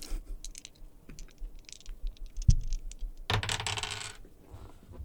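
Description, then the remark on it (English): A pair of dice, rolled in an attempt to roll a nine, clatter and tumble across a hard surface, with scattered small clicks before a louder rattling burst near the end; they go under a table and land on ten. No one speaks. “I noticed that you held up a pair of dice just then. Yes. I want you to roll a 9.”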